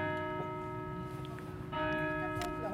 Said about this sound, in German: Sagt die bald 100-Jährige und hört die Glocken läuten.